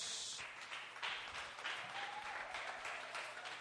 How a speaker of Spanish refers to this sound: Démele un aplauso a Jesús.